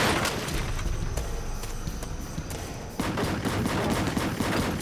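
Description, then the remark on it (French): Rapid, sustained bursts of automatic gunfire from a Mach 11 assault weapon crackle loudly and continuously for several seconds, with dense overlapping shots, a brief slight easing midway, then an even heavier volley. No one speaks. “Il y eut de nombreux coups de feu dans l'air.”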